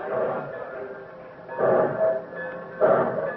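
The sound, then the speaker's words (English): A wartime train loaded with troops and war supplies pulls out of a station, with slow, heavy chuffs roughly every second and a half over a steady mechanical rumble, moderately loud. “Trains pulled out day and night.”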